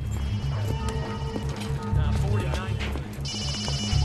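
A phone's electronic ringtone starts near the end as an incoming call, bright, over a busy bed of low rhythmic music and background activity.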